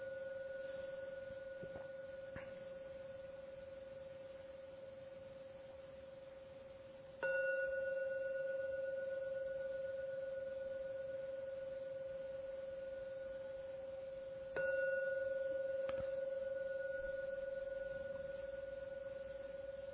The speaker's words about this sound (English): I'm going to ring the gong 3 times. Please listen to every sound of the gong and of the last sound come out from your meditation.